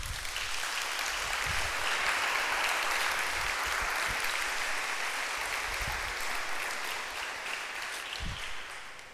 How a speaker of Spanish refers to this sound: Un aplauso al Señor.